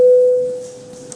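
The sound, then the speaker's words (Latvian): A single electronic bell-like signal tone in a parliament voting chamber, called before a vote on a bill, sounds with a sharp onset, holds a steady pitch and fades out within about half a second, with no talk over it. “Lūdzu zvanu.”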